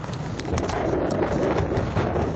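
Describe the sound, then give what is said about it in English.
A loud, steady roar of Category 5 Cyclone Pam's storm wind approaching Vanuatu, with heavy waves crashing onto the shore, a dense wall of noise that churns without pause and carries no voices. “The sea is growing increasingly violent, the waves already smashing against the shore. Trees are helpless in the wind and some streets are inundated with water.”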